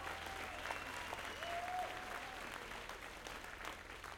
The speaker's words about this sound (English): They're on tour with us, so if you could give them a round of applause.